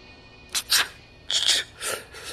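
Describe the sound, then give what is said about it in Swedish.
Sneezing and sniffling from a cold: two quick, breathy bursts followed by a longer run of hissy, wet nasal sniffs, fairly loud with no talking. “Oj, jag har visst blivit förkyld, snörvlade Joy.”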